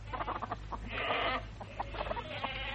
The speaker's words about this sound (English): Here, Mother, let me take those buckets. I thought it was about time the chickens had their feed.